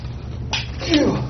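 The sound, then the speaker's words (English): A single sneeze: a sudden breathy burst followed by a short voiced, slightly pitched tail, heard over a steady low background rumble. “Bless you.”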